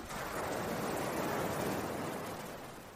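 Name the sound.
flowing water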